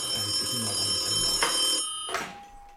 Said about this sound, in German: Hä, warum klingelt das Telefon? Kann eigentlich nur Tim Wiese sein. Der ruft hier gerne mal an.